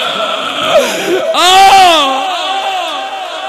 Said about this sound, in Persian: بچه را تازه شیر داده روبا. باز هم گریه اش بلند شده، چه شده زود میپرد از خواب.